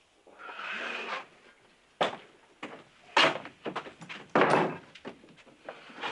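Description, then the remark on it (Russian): A door scrapes open with a drawn-out sliding rasp, followed by a series of sharp knocks and thuds as it bangs and rattles against its frame. “Дверь.”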